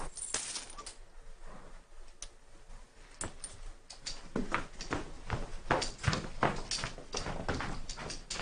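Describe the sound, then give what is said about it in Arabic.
Coins jingle and clink repeatedly in a bag as it is handled and handed over to another person, bright metallic chinks scattered irregularly across the scene, moderately loud, with no one speaking. “أنا أصر أن تأخذ هذا الكيس، عسانا نثاب عند بارئنا.”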